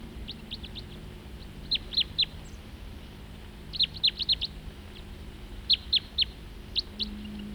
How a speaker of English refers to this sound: Same bird. And another crossbill flying nearby.